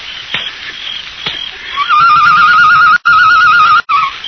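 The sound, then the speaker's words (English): A person whistles an imitation of a bird call, a loud, steady warbling trill at a fixed high pitch lasting over two seconds, broken by two brief gaps. Two soft clicks come first. “Did you make that noise? Yes. Sounded like a bird.”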